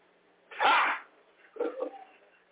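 A single loud sneeze bursts out sharply, followed about a second later by a shorter, softer breathy after-sound, with no talking.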